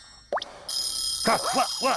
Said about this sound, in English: Oh, dear. It's my baking timer. I left Christmas dinner in the oven.